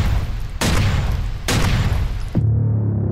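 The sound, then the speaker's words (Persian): Three loud pistol shots fire about a second apart, each a sharp blast with a rumbling, reverberant tail, fired by a British officer at three princes. The last shot's echo rings out and fades into quiet. “تپانچه خود را بیرون کشید و با شلیک 3 مرمی هر 3 نفر را از پا انداخت.”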